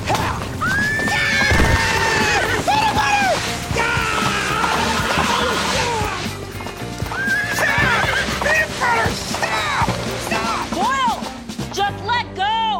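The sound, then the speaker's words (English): A horse whinnies loudly and repeatedly, with its hooves clip-clopping steadily underneath, the neighs rising and falling throughout. “Fine, I'll get the dumb horse.”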